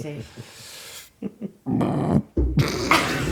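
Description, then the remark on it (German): A loud, low, rumbling burp comes in two drawn-out bursts after a few short quieter sounds, rough and guttural in tone. “Dann ist das man darf rülpsen hier, man darf rülpsen, das ist okay.”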